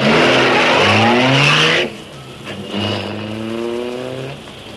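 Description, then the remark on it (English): A car engine roars loudly and climbs in pitch as it accelerates, drops off briefly, then revs up again in a second rising surge as the vehicle, the Black Beauty, speeds away. “Step on it. Get the Black Beauty out of here.”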